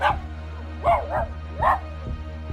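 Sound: dog barking frantically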